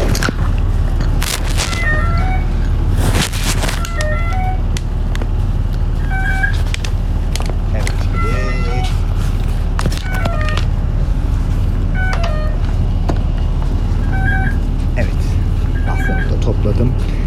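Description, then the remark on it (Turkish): Inside a moving city bus: a constant low engine rumble with rattles and clunks, a short electronic beep repeating every couple of seconds, and muffled voices in the background. “Otobüslerde biraz daha yavaş konuşmak zorundayım arkadaşlar.”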